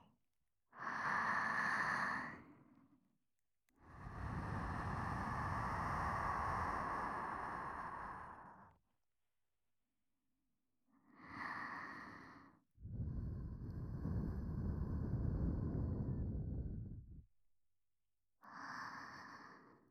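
Slow, warm breaths blown right up against the ear: five long exhales, alternating short airy puffs and long whooshing gusts, each separated by brief quiet, with no talking.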